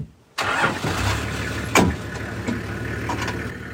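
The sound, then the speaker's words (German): An off-road safari vehicle with bench seats mounted on its rear load bed cranks and catches after a brief silence, then settles into a steady low rumble as it drives, with a few rattles and knocks over the running motor. “Das Stachelschwein lief uns über den Weg, als wir mit dem Geländewagen unterwegs waren.”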